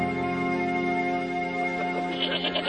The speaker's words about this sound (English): With a few other children, he herded goats on the steep meadows above the river springs. One day, a goat wandered down into the village.